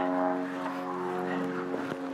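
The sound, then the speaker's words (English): A steady, low droning hum of an aeroplane engine overhead, holding even in loudness for the whole two seconds, with layered tonal harmonics and no voices. “Aeroplane going overhead, you might be able to hear.”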